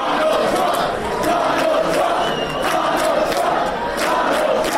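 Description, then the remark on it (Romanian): A large crowd in the Democrats' camp roars and cheers in celebration on election night in Phoenix, Arizona, a dense, steady wash of shouting voices with occasional higher whoops and claps standing out, loud throughout without a pause. “Tabăra democraților s-a sărbătorit zgomotos în noaptea de marți spre miercuri, cu mesajul Let's make America great again, în traducere din engleză, să facem America din nou mare.”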